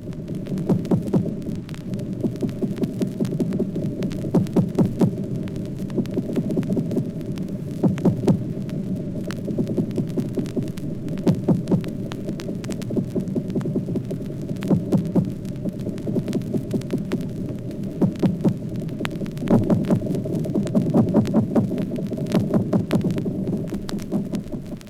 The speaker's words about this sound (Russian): Шумы горбылей на Батумской банке.